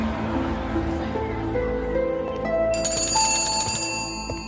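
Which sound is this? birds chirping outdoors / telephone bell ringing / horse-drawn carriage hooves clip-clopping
telephone bell ringing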